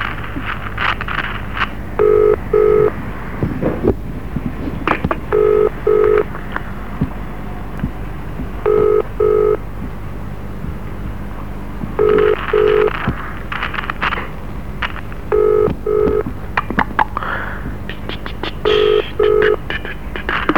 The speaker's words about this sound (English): Tiny Mac, I can dial a phone. I didn't even know I could dial a phone.